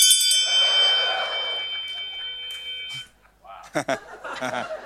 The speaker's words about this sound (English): That's why we always ring the bell of noontime darkness to frighten Telebrion back into the horn of dusk.